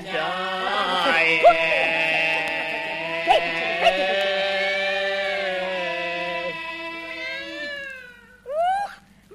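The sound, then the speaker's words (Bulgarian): A cat that has climbed onto a window lets out a long, drawn-out yowling meow lasting several seconds, loud, followed after a brief pause by a couple of short rising meows. “Та котка на прозореца ни се покатерила.”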